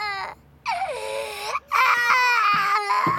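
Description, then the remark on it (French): A baby boy wails loudly in long, strained bursts, with a short gasp for breath between cries and a high, rising, piercing pitch. “Voilà qui pleure.”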